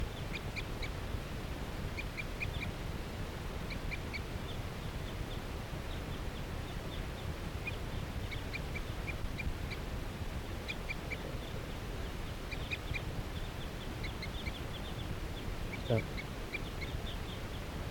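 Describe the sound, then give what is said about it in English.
A wild female bird, perched in a tree along a net, gives repeated short, high-pitched circling calls in loose clusters throughout, fairly faint over a steady low rumbling background. “Circling calls of that wild female.”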